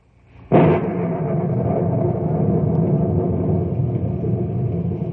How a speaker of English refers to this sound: Gigantic thunderheads are passing over the knotty pine country, and the monsters lash out with angry streaks of lightning.